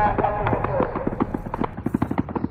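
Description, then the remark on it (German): Rapid bursts of automatic fire from Kalashnikov rifles crackle in quick succession as attackers fire indiscriminately into fleeing crowds on festival grounds on the morning of 7 October, a dense series of sharp reports over background commotion and voices, fairly loud. “Kurz danach fallen erste Schüsse.”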